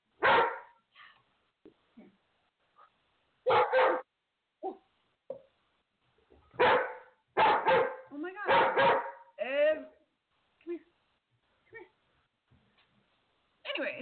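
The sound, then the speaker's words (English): A dog barks loudly in irregular bursts, several sharp barks clustered together with pauses between, mixed with higher yips and a short whining sound. “Stop barking.”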